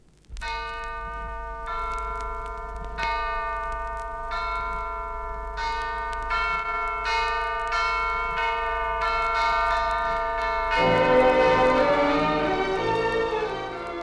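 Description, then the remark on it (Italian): A bell, played as a percussion instrument, rings out in a steady series of strikes, each clear metallic tone lingering and overlapping the next, swelling louder and fuller toward the end, with no voices. “Udremo il suono inconfondibile della campana.”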